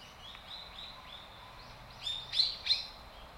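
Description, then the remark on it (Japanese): A bird, recorded with a microphone pointed at it, gives three short, high-pitched chirps in quick succession, louder than a run of fainter, similar calls just before them. No one speaks. “3回ピッピッピッって 鳴きましたね。”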